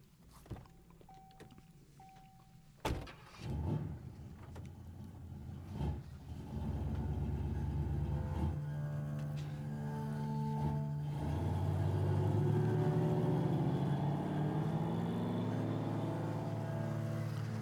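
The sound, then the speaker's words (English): A car engine turns over with a sharp jolt after a couple of soft chimes, then idles and revs up steadily as the car is driven to work in light morning traffic, its rising drone continuous with no voices. “Traffic's light this morning. I should be there in no time.”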